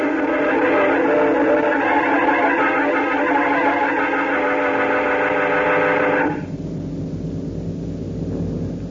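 A loud, steady jet boat engine hum drones continuously with a rich, buzzing tone as the boat circles an asteroid, then abruptly thins and drops to a lower, quieter rumble near the end. No one speaks.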